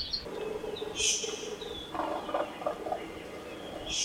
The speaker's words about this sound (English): I remember making the recording and being there and experiencing whatever ecosystem I was in. This recording's from 2005. That's characteristic of Akeke'e.